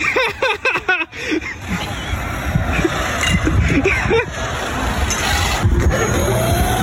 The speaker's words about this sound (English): And he had what looked like a pretty high-line remote control car, and he delivered his neighbor a beer.